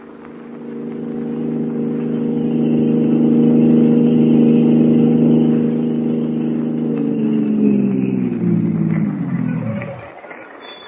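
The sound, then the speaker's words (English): A car engine hums steadily at a low, even pitch for about nine seconds as the car is driven to an apartment, then winds down in a falling whine and cuts off as the car stops. “My car, we should reach your apartment in a couple of minutes.”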